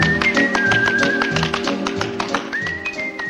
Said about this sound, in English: Henri leans easily on a lamppost as Jerry twirls into a carefree tap dance.